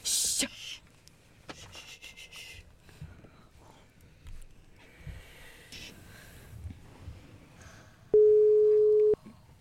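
telephone call ringing tone

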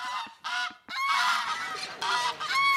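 geese honking

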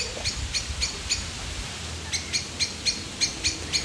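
common blackbird alarm call

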